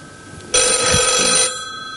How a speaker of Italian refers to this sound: Senti là? Un campanello. Senti?